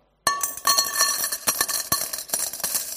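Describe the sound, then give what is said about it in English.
Heavy coins clatter into a metal bucket in a quick, uneven series of bright clinks, with a ringing metallic tone lingering underneath. It starts suddenly after a brief silence and stays fairly loud, with no voices. “The clatter of heavy coins and the bronze bucket or metal bucket or the wooden bucket.”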